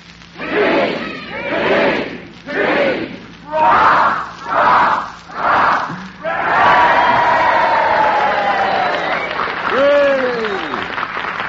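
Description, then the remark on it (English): A crowd cheers for the Allied Armed Forces in six rhythmic, chant-like bursts, then breaks into a sustained loud roar of shouting and applause with rising and falling whoops near the end. “Well, fellas, we'd like to cheer the greatest all-star team in history, the Allied Armed Forces.”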